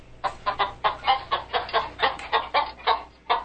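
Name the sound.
chicken clucking sound effect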